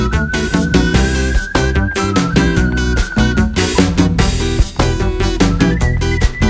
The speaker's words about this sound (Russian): Свистишь тут, все равно не находит.